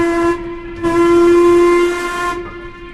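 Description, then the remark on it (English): A boat whistle, pulled at the skipper's invitation, blows loud: a short blast, a brief dip, then a long steady, reedy tone that cuts off and leaves a fading rumble. No one speaks. “is it possible to have a go on the whistle? Yeah, we'll give her a tootie already.”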